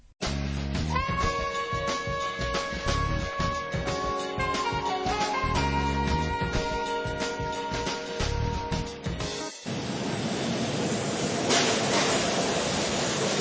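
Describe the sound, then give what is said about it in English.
A loud train rumbles at a subway station with sustained metallic squealing tones, then the sound shifts to a broad, steady hiss and roar, like a busy underground platform with no voices. “we are now at the subway station.”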